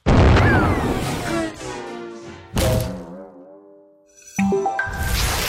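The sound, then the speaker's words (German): A cannon fires a person out of its barrel with a loud boom, followed by more thudding blasts and ringing, whistling tones that slide and fade in between, like a cartoonish launch sequence. “Klettern Sie jetzt in das Kanonenrohr! Ich bin bereit. Feuer frei!”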